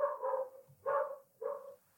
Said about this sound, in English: The dogs of Bushwick are barking.